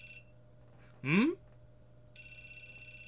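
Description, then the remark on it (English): A cell phone lying face down on the ground by a rooftop door rings with an incoming call, a bright, trilling electronic tone. It cuts off briefly, a short rising chirp sounds in the pause, and then the steady warbling ring starts again. “There's a cell phone lying face down on the ground by the door.”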